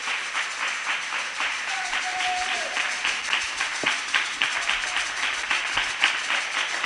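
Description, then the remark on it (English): A church audience applauds God as a clap offering after a prayer, many hands clapping at once in a dense, continuous wash, with a brief whistle-like tone and a few sharper claps standing out. “Celebrate God with a clap offering.”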